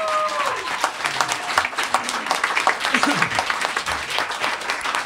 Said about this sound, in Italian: e vi chiediamo un applauso.